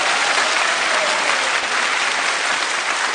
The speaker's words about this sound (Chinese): 此处应该有掌声，我觉得，谢谢。